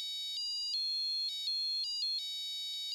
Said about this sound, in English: I had a new bell installed in my flat.